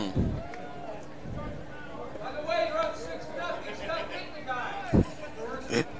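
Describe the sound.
A Thirsty Thursday ballpark crowd, the Roger Dean Rowdies, cheers and shouts in a steady roar of mixed voices after the first pitch hits the batter, with brief louder bursts and a few sharp individual yells rising above the din.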